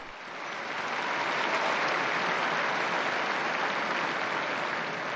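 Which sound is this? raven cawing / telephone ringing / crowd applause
crowd applause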